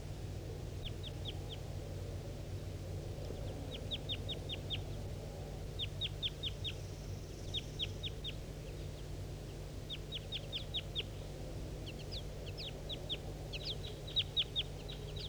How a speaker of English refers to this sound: So recording the wild bird. Wild. It's a male.